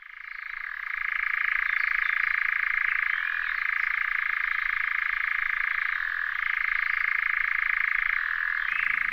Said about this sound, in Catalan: això és un enganyapastors, que és un ocell marró amb un plomatge variegat molt críptic